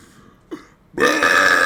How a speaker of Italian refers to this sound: No, scusa, fammi la scena ruttando. Io ero lì così.